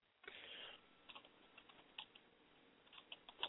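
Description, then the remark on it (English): Quiet, uneven clicking of computer keys as someone types in an online chat, with bursts of taps and short pauses between them, low in level, with no voices. “I'm just typing here.”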